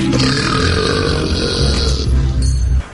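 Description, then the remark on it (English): A long, loud, exaggerated burp from the cartoon characters Scooby and Shaggy in a burping and farting contest rumbles for nearly three seconds, deep and gravelly with a cartoonish, over-the-top quality, with no talking. “So here is Scooby and Shaggy getting into a burping and farting contest.”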